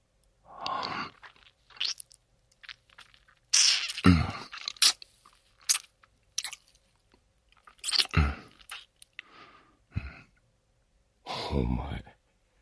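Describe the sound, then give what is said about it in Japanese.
Wet, irregular nibbling and biting mouth sounds on an ear come in short bursts of smacks and soft crunches over about twelve seconds, mixed with breathy sighs and murmured vocal sounds, with no clear words. “耳もかわいいな。ちょっとだけかじるか。”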